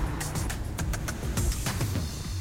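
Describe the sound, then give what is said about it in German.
A city bus rumbles steadily along the Kurfürstendamm (Kudamm) in Berlin, a deep engine drone filling the background, with scattered sharp clicks and taps layered on top. “So, ich laufe jetzt hier wieder über den Kudamm. Da ist der Bus.”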